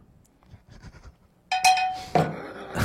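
cowbell ringing

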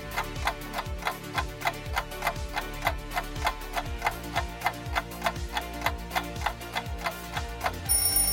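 countdown timer ticking

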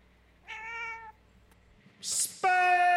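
cat meowing

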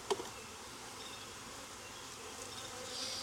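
honeybees buzzing

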